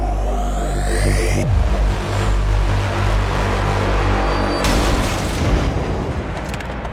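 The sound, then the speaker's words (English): Loud, deep explosion booms roll into one another over a sustained heavy rumble, with sharper blasts breaking through about a third of the way in and again later. No one speaks. “Cars that go vroom, vroom, and explosions that go boom, boom, baby.”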